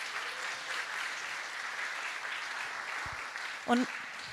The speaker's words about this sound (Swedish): Vad glada vi är över att de är här tillsammans med oss, eller hur? Vi ger barnen en stor applåd, tycker jag.